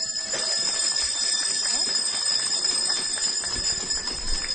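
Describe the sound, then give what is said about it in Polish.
Small handbells jingle continuously in a bright, shimmering wash, mixed with a steady patter of clapping from a group, all fairly loud throughout, a greeting to viewers of Telewizja Trwam and listeners of Radio Maryja at a regional gathering of children's rosary circles in Warmontowice. “I do tych oklasków dołączymy także nasze anielskie, piękne dzwoneczki.”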